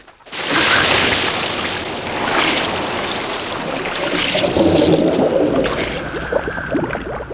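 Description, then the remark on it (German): Two divers wearing diving goggles plunge into a reservoir in fading daylight: a sudden rush of splashing gives way to a steady, muffled wash of bubbling and churning water, fairly loud, with no voices. “Als Bob und Peter unter Wasser waren, eröffnete sich ihnen eine neue Welt.”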